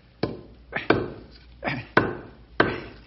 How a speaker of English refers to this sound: Gotta whittle this down a bit.